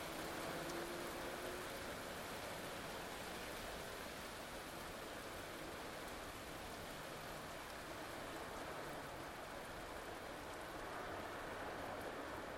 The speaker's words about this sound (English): The rain has died down to just a shower now, and I'm thinking the storm has passed.